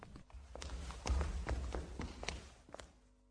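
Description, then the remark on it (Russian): Slow footsteps cross a wooden parquet floor from the door toward a sofa, about six soft thudding steps walked quietly at an unhurried, slightly uneven pace, with no voices. “А как я по паркету пойду? А ты тихонечко иди, не катайся.”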